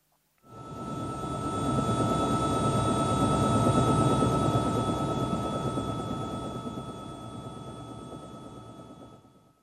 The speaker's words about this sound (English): The helicopter is searching Green Island.